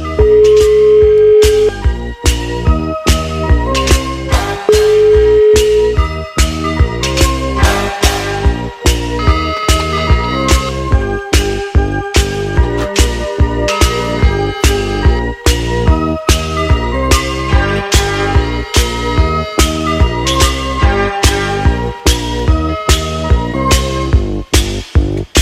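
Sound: telephone ringback tone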